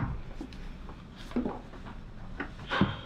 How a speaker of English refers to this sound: So I'll open up this door.